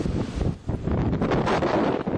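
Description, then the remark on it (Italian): Strong, gusting wind blows incessantly on the tourist island of Crete, roaring steadily across the microphone, loud, with buffeting bursts and a brief dip before surging again; no voices are present. “Il rumore del vento impetuoso che soffia incessantemente sulla nota isola turistica di Creta.”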